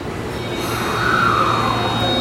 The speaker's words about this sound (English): I am currently at Otemachi Station, which is one of Tokyo's largest train stations, as well as one of the busiest in metropolitan Tokyo.